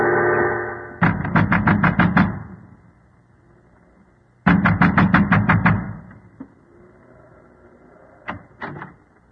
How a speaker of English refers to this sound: A man wrapped in an oilskin and wearing gigantic boots was pounding at the door of the windmill.